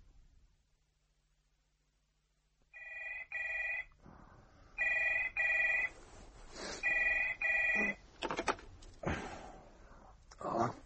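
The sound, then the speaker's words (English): A telephone rings in repeated double bursts after a short stretch of quiet, fairly loud, followed by some rustling and handling noise. “I'll phone you in the morning.”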